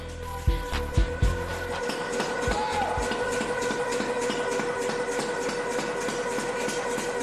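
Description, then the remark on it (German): A large hammer forging the surface of a heated, glowing steel bar so it is less smooth: three heavy ringing blows in quick succession, then a few fainter knocks, all over a constant loud mechanical roar and hum. “Was hast du da jetzt gerade gemacht mit diesem riesen Hammer-Ding? Wir haben die Oberfläche ein bisschen abgeschmiedet.”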